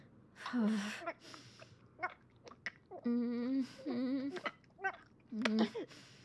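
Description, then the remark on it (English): A woman whimpers in several drawn-out, wavering bursts while performing oral sex on a man, broken up by short sharp breaths and gasps, with no words spoken. “Those whimpers.”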